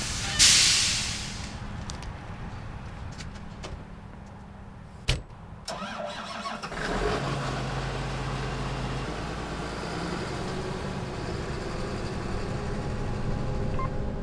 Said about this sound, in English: The semi-truck that Zach called for earlier has just arrived.